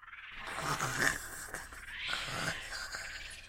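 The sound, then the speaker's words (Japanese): Two slow, rasping snores of someone asleep, each a rough rising-and-falling breath lasting about a second, fairly quiet, with no talking. “いびきかいて寝ちまってる。”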